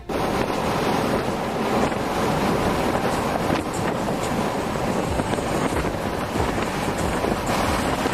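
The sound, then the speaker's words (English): Strong wind roars steadily across an open bridge in France as runners in the Foulée des Two Rives 14K race cross mid-race, with gusts reported at over 50 miles per hour, buffeting the microphone with loud, continuous gusts and rumbling noise, with no voices audible. “The wind gusts were reported at over 50 miles per hour, making for a pretty brutal experience.”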